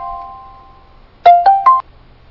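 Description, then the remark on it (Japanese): As a telephone call is placed, a steady electronic phone tone fades out, then three quick rising beeps chime in close succession, like a call being dialed and connecting. No one speaks. “一応電話してみてますけど、かかるかどうか。”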